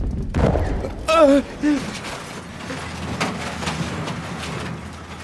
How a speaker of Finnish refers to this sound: Räjähdyksen vaikutus moninkertaistui mausoleumin betoniholveissa, eikä syntynyt paine päässyt purkautumaan kuin ylöspäin, läpi välikattojen kohti yöllistä tähtitaivasta.